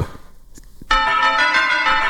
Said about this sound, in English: I just Googled marimba, and that's the sound that it makes. Play just the beginning of it, of my marimba. Just the beginning.